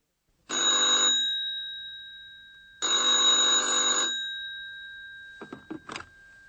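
A telephone rings twice with a loud, trilling electric bell, each ring lasting about a second and a half, followed by a few brief clicks as the receiver is picked up: a call from a hotel employee to a doctor at his home in Berlin.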